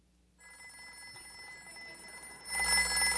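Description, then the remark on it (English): An old rotary telephone bell rings steadily, a sustained metallic jangle that swells louder near the end, with no one talking over it. “A rotary phone?”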